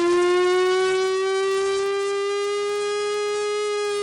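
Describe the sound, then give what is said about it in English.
A real, working Cold War-era civil defense siren, played from a tape recording, wails in a steady, loud, sustained tone with rich harmonics. Its pitch rises very slightly over a few seconds, with no voices. “This is a siren on tape of an actual functional Cold War siren.”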